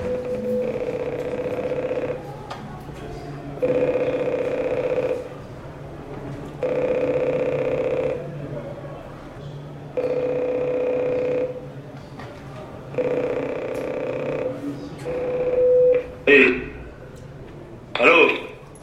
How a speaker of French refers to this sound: Bonjour, c'était pour un essai à l'interphone.